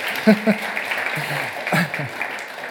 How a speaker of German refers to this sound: Also mal ein kräftiger Applaus für so Kleinigkeiten.